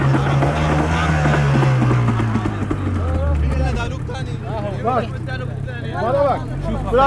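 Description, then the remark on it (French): A motorboat engine drones steadily as a boat of refugees crosses the Aegean Sea at night, its low hum sliding down in pitch partway through, while several people talk loudly over it. “C'est lui qui a démarré le bateau.”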